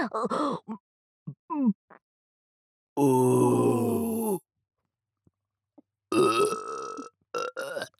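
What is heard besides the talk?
burp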